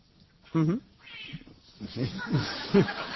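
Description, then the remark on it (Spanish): A cat meows several times, starting with a loud, drawn-out cry followed by shorter, rising mews, with indistinct voices murmuring in the background. “Y al final conseguimos un gato.”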